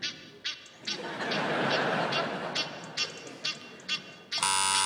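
An Egyptian goose call played backwards: a run of about eight clipped, nasal honks with an odd swelling, sucked-in quality over a hissy wash, then a sudden sustained buzzy tone at the end.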